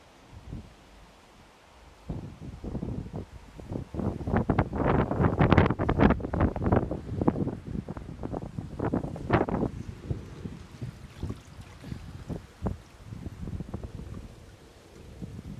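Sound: strong wind blowing outdoors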